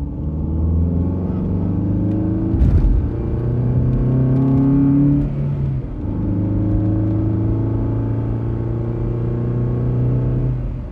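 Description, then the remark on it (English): Engine hum from inside a car rising and falling in pitch as it accelerates through gears, with a sharp thump of the car hitting a bump near the start. Steady and loud. “Car accelerate drive bump inside dot wave.”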